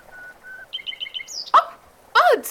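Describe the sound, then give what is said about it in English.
Recorded birdsong plays over a speaker: thin whistled notes, a quick run of repeated chirps, then two louder, harsh sweeping calls near the end, with no talking. “Bird songs, rather. Pipe them through speakers.”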